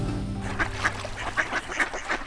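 Wild ducks on the Spree riverbank in Beeskow quack in a quick, irregular series of short nasal calls, about six or seven in two seconds, fairly loud over a low steady background hum, on a sunny but bitterly cold Sunday.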